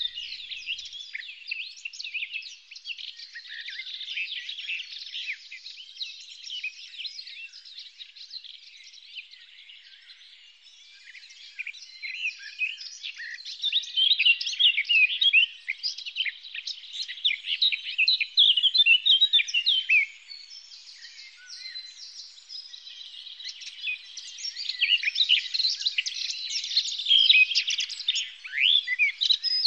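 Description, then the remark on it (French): A Eurasian blackcap sings a rich, fluted warbling song, bright, with rapid phrases pouring out almost without pause for about half a minute. No voices are heard. “Parce qu'elle a un chant très flûté, la fauvette à tête noire, écoutez-la bien.”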